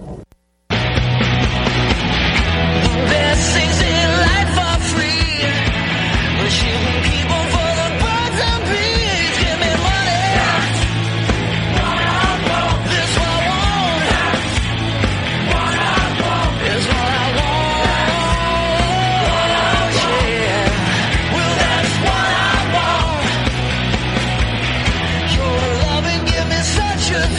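A cover version of a rock song plays loud and steady throughout, with a full band driving a constant beat under a sung vocal line, starting abruptly after a brief moment.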